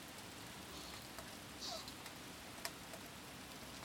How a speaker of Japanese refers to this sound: 雨ちゃんね、雨を眺めるのって結構好きなの。雨同士だからかな。